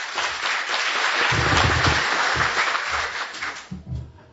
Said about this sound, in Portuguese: E eu fui professor, substituindo ao nosso grande amigo, que relembro aqui como um grande companheiro que já não se encontra entre nós, que foi nosso amigo Kleber Canissali, que eu pediria uma salva de palmas em sua homenagem.